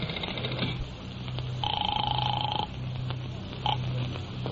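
A telephone call to a hotel going through: a steady electronic ring tone sounds for about a second over a low hum, followed by a short blip near the end, with no one speaking.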